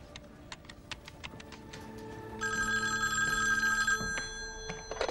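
A few sharp clicks of buttons being pressed as a call is placed from an office phone, then a telephone rings steadily for a second or two on the line, fairly loud, with no one talking.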